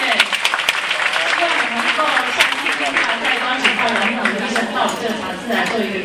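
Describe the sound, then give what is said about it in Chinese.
An audience applauds steadily for about six seconds to thank a doctor after a talk, a dense, even wash of many hands clapping at a constant loudness, with some voices murmuring underneath. “我们是在这里再热烈掌声”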